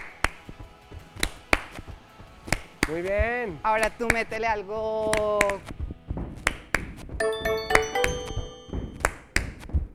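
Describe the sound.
Sharp percussive taps and knocks repeat in a steady rhythm throughout, some crisp and snappy, others duller thuds, while a couple of voices speak briefly between and over the beats.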